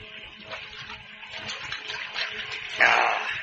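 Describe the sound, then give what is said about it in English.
Water runs steadily with a soft, hissing splash, rising into a louder, fuller gush near the end, like a tap or fountain pouring, with no talking. “Good and thirsty, eh? Yeah, that water looks good.”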